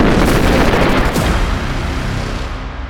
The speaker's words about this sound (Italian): Non si sa per certo cosa abbia innescato queste esplosioni, ma probabilmente si trattò di una scintilla nella sala macchine, che a sua volta avrebbe incendiato i gas risaliti dal pozzo tramite il kick.